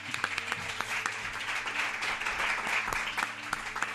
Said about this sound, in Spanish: Perfecto, pues un aplauso, muchísimas gracias.